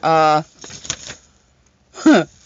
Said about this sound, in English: Hold on. I got to flip the paper.